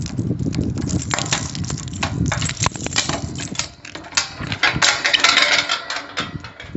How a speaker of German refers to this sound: öffnet unsere Schulleiterin Frau Uhlreitz das große Schultor. Und so klingt es.